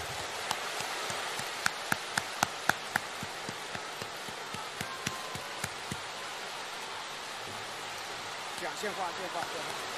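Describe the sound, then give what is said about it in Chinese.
Sustained audience applause: a dense, steady wash of many hands clapping, with sharper individual claps popping out now and then, holding an even level throughout. The audience applauds to welcome Master Lu (卢台长) to give a Buddhist talk. “现在让我们用最热烈的掌声恭请尊敬的卢台长为我们慈悲开示。”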